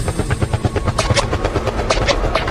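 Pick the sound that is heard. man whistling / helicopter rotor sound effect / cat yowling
helicopter rotor sound effect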